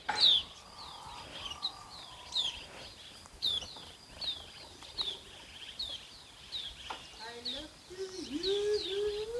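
birds chirping

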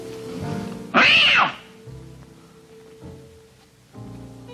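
cats meowing

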